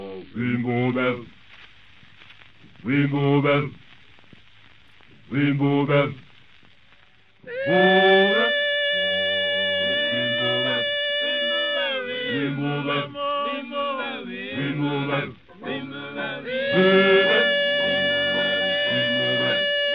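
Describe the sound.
A South African a cappella vocal group sings: short rhythmic chanted phrases come in bursts every few seconds, then open into loud, sustained layered harmonies with a high lead voice over deeper voices.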